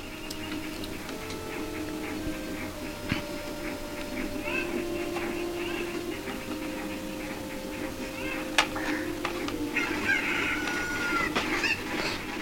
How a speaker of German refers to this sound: Wo sind denn die anderen? Wo sind denn die anderen? Papa, wo sind denn die anderen Hühner?